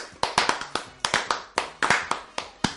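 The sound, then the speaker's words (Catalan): Hands clap in a quick, uneven burst of sharp, crisp smacks, about a dozen in under three seconds, with no talking over them. “Que jo sento veto a Felip Puig i Boi Ruiz i només puc fer una cosa, que és aplaudir.”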